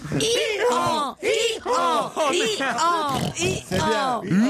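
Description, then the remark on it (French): On a radio broadcast, a man's voice mimics a donkey's bray, a loud run of about seven strained, rising-and-falling honks repeated in a steady rhythm with brief breaths between them. “Et l'âne.”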